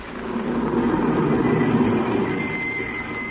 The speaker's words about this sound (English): And suddenly, a car drove up.